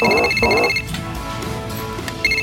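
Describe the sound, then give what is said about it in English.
A man's phone rings with a warbling electronic tone at the same time as a woman's watch alarm beeps steadily and high-pitched; the ring cuts off under murmuring background voices before the beeping briefly returns at the end. “Then immediately, per this discussion, her watch goes off and his phone rings at the same time.”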